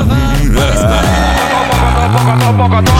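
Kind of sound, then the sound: animal, horse neighing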